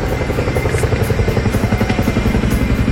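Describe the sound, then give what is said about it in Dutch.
A heavy twin-rotor Chinook helicopter passes overhead as Ukrainian President Zelensky leaves the province from Vlissingen, its rapid rhythmic blade thumping loud and steady over a deep engine rumble and turbine whine, with no voices. “Een Chinook-helikopter is het moment dat de Oekraïense president Zelensky onze provincie verliet.”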